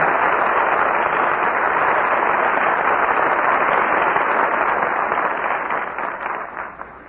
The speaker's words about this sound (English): Curtain falls on my friend Flicker, and our very good friends George Brent, Roddy McDowell, and Rita Johnson answer your applause with a well-earned curtain call.